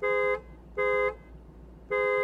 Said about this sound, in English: Now let's hear how the horn sounds on the 2021 Lexus LC500 convertible.